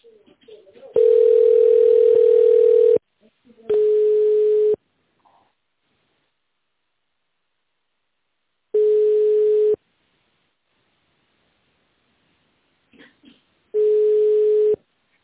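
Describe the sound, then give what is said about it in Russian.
A telephone ringing tone while waiting on the line for a secretary to answer after an automated prompt, calling the company Kristall: four steady, mid-pitched electronic tones, the first about two seconds long, the rest about one second, separated by pauses of several seconds. “Нажмите звездочку и введите внутренний номер абонента или дождитесь ответа секретаря.”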